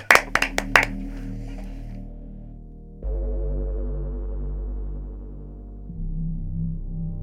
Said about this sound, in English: I think a round of applause for Robert Twigger. Yay!